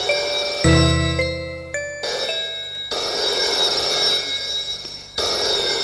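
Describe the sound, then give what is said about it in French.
A telephone bell rings loudly in the afternoon in long, rattling trills with brief gaps between them, opening with a short, deeper chiming tone. No one speaks. “L'après-midi, le téléphone sonne.”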